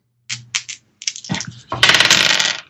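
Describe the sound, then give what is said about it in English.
Dice being rolled for idea rolls: a few sharp clicks and taps, then a loud, dense rattling clatter that runs for about a second before cutting off. No one speaks. “Make idea rolls.”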